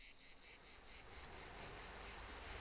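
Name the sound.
crickets chirping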